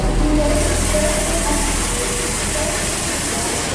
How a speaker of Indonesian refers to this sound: Kereta datang, Kang. Ayo masuk stasiun.